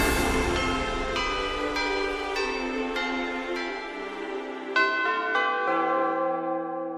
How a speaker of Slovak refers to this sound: Zvony nad krajinou.